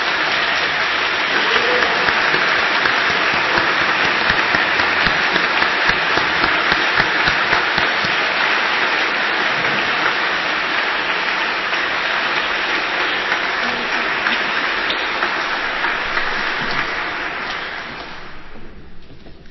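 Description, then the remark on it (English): An audience gives a round of applause to send a group off, a dense, sustained wash of clapping that holds for most of the stretch, then thins and fades toward the end. “And can we send them off with a round of applause for their hard work this year?”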